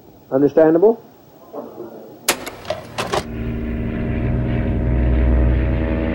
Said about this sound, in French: Le 17 novembre, en début d'après-midi, un petit avion décolle de Georgetown pour Port Kaituma, à 2 heures de vol de la capitale guyanaise.